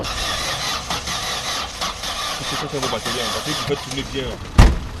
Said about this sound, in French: les mains abîmées par le cambouis, démarre rapidement une voiture.